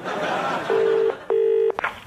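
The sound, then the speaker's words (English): A telephone ringing tone on the line after a number is dialled: two steady, buzzy tone bursts in quick succession, heard through a phone earpiece with faint background hiss and a small click after. “It's ringing.”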